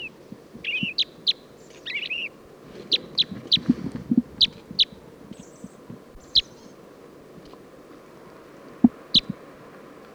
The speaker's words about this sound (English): There's a male purple finch right next to the female crossbill. Who's calling? Song of the purple finch.